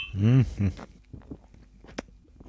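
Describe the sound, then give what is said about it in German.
A brief voiced exclamation, then a quiet pause with small scattered noises before a single sharp clink of glasses touching in a repeated toast while tasting a passion-fruit drink, short. “Nochmal Prost.”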